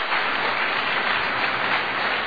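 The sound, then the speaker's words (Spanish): An audience applauds loudly and steadily, a dense wash of many hands clapping at once with no pauses and no voices rising above it. “Si ese aplauso es para esta palabra, que sea fuerte ese aplauso.”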